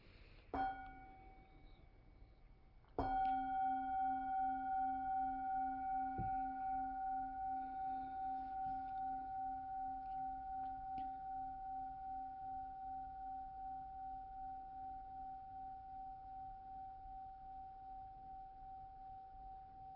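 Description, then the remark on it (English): A meditation bell is struck softly once, then a second, louder strike rings out into a long, steady hum with a gentle wavering pulse, fading slowly over many seconds. “Let's take a breath and listen to the bell.”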